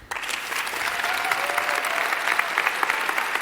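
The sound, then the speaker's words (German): A live audience applauds steadily, a dense wash of many hands clapping at once, sustained and fairly loud throughout without any voices rising above it. “Ganz schön viel Applaus für so viel Uff.”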